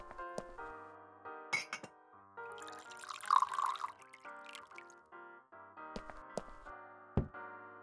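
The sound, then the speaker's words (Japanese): Water pours into a glass with a rising, gurgling splash, framed by sharp glassy clinks and a ringing resonance, with no voices. “さあ、お水汲んだけて。”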